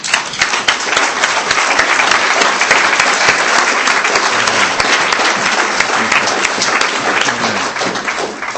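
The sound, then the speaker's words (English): Sustained applause from a large audience at a conference, given as a clap offering of thanksgiving. Dense, steady clapping fills the space at full volume for several seconds with no voices rising above it. “I think for all of us who have come and visited this conference, we really appreciate the labor of love that all of you dear brothers and sisters have shown, and we'd like to really give you an offering of thanksgiving through with a clap offering.”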